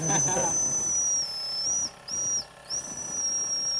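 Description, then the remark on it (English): Mr. McFeely's toy steam engine, shown to Mr. Rogers, sounds its shrill, high whistle in three blasts, a long one and then two shorter ones, over a steady steam hiss, with a brief bit of voice at the start. “How about a little whistle?”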